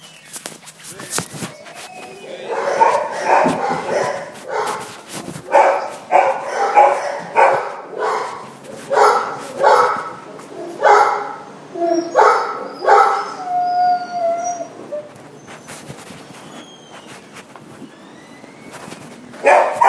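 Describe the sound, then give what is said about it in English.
A dog barks over and over for about 45 seconds in a steady, insistent rhythm, loud, sharp yelping barks with a brief high whine mixed in, before trailing off into quieter stillness at the end. “That was about 45 seconds worth of barking.”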